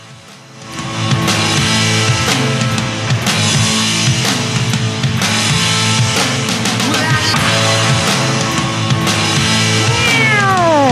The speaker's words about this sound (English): Meow. Meow.